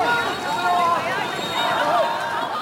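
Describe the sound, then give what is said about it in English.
A dense, chaotic crowd din of many overlapping voices and shouts at a protest march, steady and loud throughout, recorded on a phone with rough handheld quality, as police disperse the crowds with tear gas and water cannons and people rush about. “Police fired several rounds of tear gas and used water cannons to disperse the crowds. It descended into chaos.”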